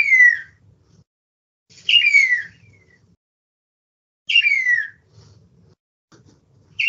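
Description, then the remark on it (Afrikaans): A starling gives clear, descending whistled calls, about four of them, separated by pauses of a second or two. The calls stand alone over a faint low background rumble. “Daar is 2 groot groeperings van hierdie roepe. Fluite, hoekom dit my altyd aan water laat dink, weet ek nie, maar dit is 'n geluid wat ek voel onder water uitkom.”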